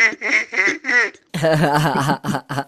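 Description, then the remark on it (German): A person imitates a duck as a duck-laughing exercise, letting out a run of nasal, rasping quacks in quick bursts, fairly loud, with no other talk. “bei diesen ganzen Donald Duck und Dagobert Duck und die ganze Duck-Familie, da möchte ich gerne das Entenlachen noch dazu machen”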